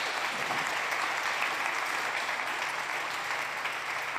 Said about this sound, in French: Juste, je voudrais juste qu'on applaudisse, s'il vous plaît, tu les as cités, les monitrices de l'éducation biblique qui sont là aujourd'hui et qui font un boulot.